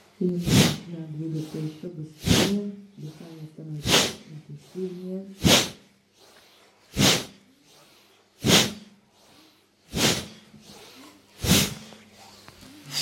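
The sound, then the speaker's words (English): Forceful, sharp breaths pushed out through the nose or mouth at a steady rhythm during an exercise, the chin brought towards the chest on each out-breath, about nine in a row, loud, with a voice talking over the first few. “And we're going to move a little bit faster, making the breathing more powerful.”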